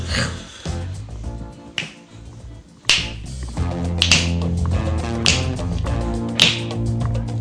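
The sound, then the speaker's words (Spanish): Crisp finger snaps land in a steady rhythm, roughly one per second, over a song with sustained instruments and low bass; no one speaks. “Vaya panda de chasquidos.”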